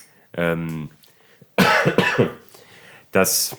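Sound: coughing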